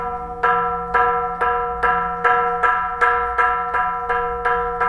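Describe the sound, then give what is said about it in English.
A loud, ringing temple bell in a three-story bell tower is struck repeatedly at 4 a.m. to call monks to prayer, in a steady rhythm about twice a second, each strike sustaining into the next with rich overlapping tones. No voices are present. “Sutichan begins striking the bell that calls the monks to prayer”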